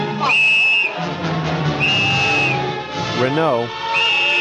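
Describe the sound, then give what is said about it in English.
A police whistle, blown by Captain Renault, prefect of police in the film Casablanca, gives three sustained, shrill blasts at regular intervals, loud, over a busy background of murmuring voices and commotion. “Renault had a whistle.”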